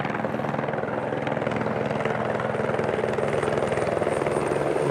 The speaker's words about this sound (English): Customs helicopter in action.